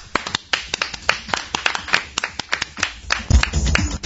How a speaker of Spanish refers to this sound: Esto merece un aplauso.